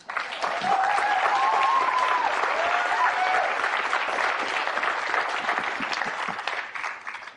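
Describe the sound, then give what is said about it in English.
Sustained applause from an audience applauding themselves at the close of a Bashar session, a dense wash of clapping hands that holds steady for several seconds with a few faint whoops on top, then gradually thins out toward the end. “Applaud yourselves.”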